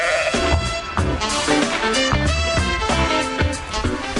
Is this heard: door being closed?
no